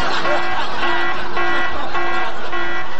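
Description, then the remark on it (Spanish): A loud, buzzy contest alarm horn on the Punto 7 Puerto Montt radio station sounds continuously, its steady mid-pitched tone pulsing in repeated bursts for a few seconds, like a game-show alert. “Oh, alarma de concurso.”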